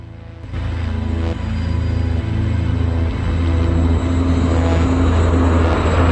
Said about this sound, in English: the helicopter flying further and further away over woodland.